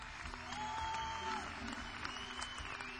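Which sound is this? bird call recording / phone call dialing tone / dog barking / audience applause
audience applause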